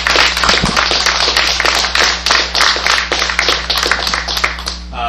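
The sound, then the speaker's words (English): People applauding steadily for a retiring city chief, Chief Reich, dense overlapping claps forming a loud, even wash of sound that holds for several seconds before fading at the end, with a low steady hum underneath. “And I don't know if you're coming back for your citation or not, so I do think we should give you a big round of applause.”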